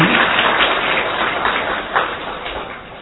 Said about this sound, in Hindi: तो पहुंच गए तो आप सबको बहुत बहुत मुबारक है। हाँ, फिर से ताली बजाओ अपने लिए।